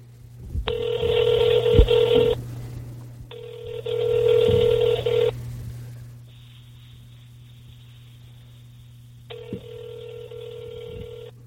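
A phone line rings out in repeated buzzy bursts, about four rings spaced by short pauses, over a steady low electrical hum. Nobody speaks.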